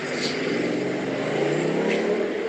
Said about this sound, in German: Jetzt sind wir auf einer großen Kreuzung, 1 Million Autos.